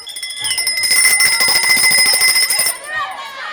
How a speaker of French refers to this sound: Ah, ça y est, la cloche a sonné, le cross va commencer.